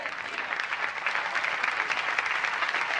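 Steady audience applause, a dense wash of many hands clapping at an even, sustained loudness throughout, with no voices standing out.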